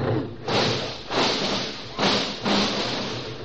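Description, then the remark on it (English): Four heavy, noisy bumps from cars colliding on a road arrive in two pairs over a steady rumble, each a broad crunching thud that swells and lingers briefly before the next. “Did we lose a fender? No, we picked up three.”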